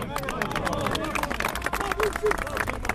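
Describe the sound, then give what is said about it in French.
A crowd of Kosovars living in France or Switzerland cheers Ramush Haradinaj as he leaves the investigating chamber of the Colmar court of appeal on 6 April 2017, in a dense, overlapping roar of many voices, with scattered claps and whistles cutting through at a steady, loud level. “Un homme sort sous les vivas de la foule des Kosovars installés en France ou en Suisse.”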